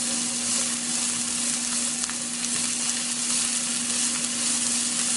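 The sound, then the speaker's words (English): Bell peppers sauté in a pan for a stir fry with a steady, dense crackling sizzle, bright and continuous, with a few sharper pops and a low steady hum underneath; no one speaks. “While that's sauteing, I'm quickly going to come here”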